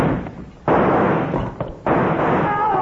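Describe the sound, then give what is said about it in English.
Two sharp, loud gunshots about a second apart, each followed by a heavy lingering roar of noise, fired from a gun rigged with rawhide lacing looped around its trigger and yanked by a cord. No voices. “He fired at the first quick line. Look, he knocked my guns right out of my hand.”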